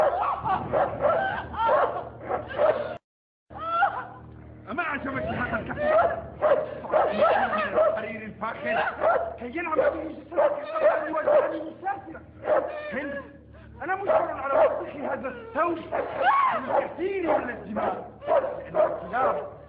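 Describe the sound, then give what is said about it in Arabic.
A hungry dog barks and yips almost nonstop, mixing sharp barks with whining whimpers, with only a brief pause early on. “انظري إلى ذاك الكلب المتحفز، إنه يتطور جوعا ويتشوق لوليمة دسمة.”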